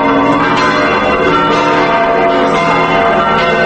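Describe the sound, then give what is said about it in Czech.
Church bells of the Saborna crkva (Cathedral Church) in Belgrade, Serbia, ring at 14:15 in a continuous, dense, overlapping peal, loud, with rich sustained harmonic tones and periodic strikes layering over one another, marking the election of a new patriarch of the Serbian Orthodox Church. No voices are heard. “Tačno u 14:15 zvona Saborne crkve u Beogradu označila su da je u desetak metara udaljenoj zgradi Patrijaršije upravo izabran novi poglavar Srpske pravoslavne crkve.”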